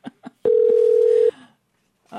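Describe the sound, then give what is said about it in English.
A phone line rings on an outgoing call to the author of the book Crashed: one loud, steady electronic ring tone lasting just under a second, with brief snippets of voice before and after it. “His brand new book is titled Crashed, How a Decade of Financial Crises Changed the World, and hopefully he'll answer the phone.”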